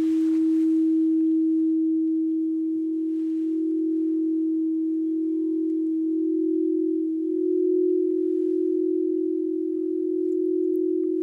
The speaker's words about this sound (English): But I have alchemy bowls with me today, which are infused with pure gemstones as well. So they're really special. These are a brand called Crystal Tones. I'm hoping that you can hear them. That one's a bit better.